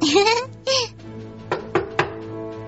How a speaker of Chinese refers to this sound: 叮咚，你看人家芋头都知道先敲门。